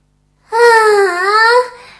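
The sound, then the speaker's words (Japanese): A single loud, high-pitched scream lasting just over a second, its wavering tone dipping slightly in the middle before rising again, then cutting off into silence. “悲鳴みたいのが聞こえたような。”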